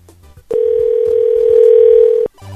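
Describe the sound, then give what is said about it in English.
A steady, loud telephone dial tone holds on one pitch for nearly two seconds while a call is placed to a mobile phone left in a truck, then cuts off abruptly, with faint background rumble before and after. “I guess I can try Ken one more time. One last time, but his phone's in the truck.”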